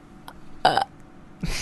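A short, loud burp bursts out alone, used like a buzzer to buzz in during a guessing game, followed a moment later by a second rough, throaty burst.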